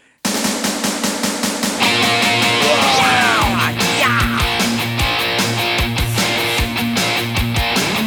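Loud, dense punk rock music kicks in after a brief silence, with driving distorted guitars, pounding drums and sustained high tones carrying a fast, aggressive rhythm throughout.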